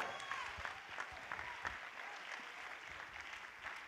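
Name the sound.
audience clapping hands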